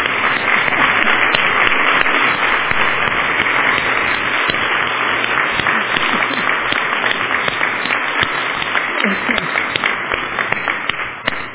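Sustained audience applause, a dense, steady wash of many hands clapping at once, staying loud and even for over ten seconds before tapering slightly at the end.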